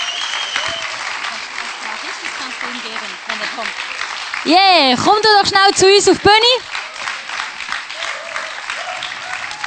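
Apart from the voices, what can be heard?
audience applause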